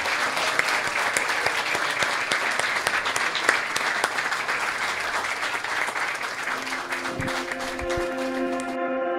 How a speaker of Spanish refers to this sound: aplauso para la UNAD.